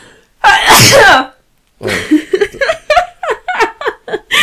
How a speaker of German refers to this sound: Ach so, warte, ich muss niesen.